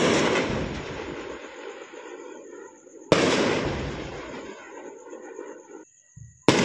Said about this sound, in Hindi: लेकिन समझौते के कुछ ही घंटों में भारतीय प्रशासित कश्मीर के प्रमुख शहरों से विस्फोटों की आवाजें सुनी गईं और नगरोटा में आसमान रोशनी से भर गया।